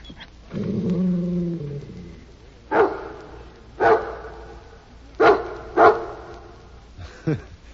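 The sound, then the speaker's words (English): The dog Rin Tin Tin gives a low, rumbling growl, then lets out five loud, sharp barks, spaced unevenly with short pauses between them, and no one talking. “Oh, this is your very own dog.”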